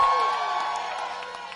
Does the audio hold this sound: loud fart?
no